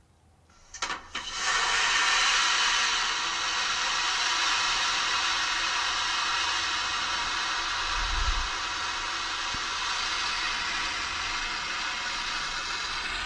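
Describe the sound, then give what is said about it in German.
A loud, steady rushing whoosh, like a vacuum toilet flushing, starts abruptly after a second and holds at an even level for over ten seconds, with a brief low thump midway. No one speaks. “Und ich finde auch, es klingt wie eine Klospülung.”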